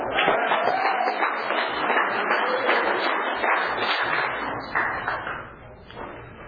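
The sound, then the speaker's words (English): An audience in Tulare County, with no PA system, claps steadily to welcome the featured speaker, a dense patter of many hands keeping an even level for several seconds before thinning out slightly toward the end. No one speaks over it. “I'm supposed to keep clapping until I get up here.”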